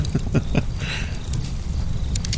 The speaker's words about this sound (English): You can hear the campfire going, and I figured we'd discuss some things today.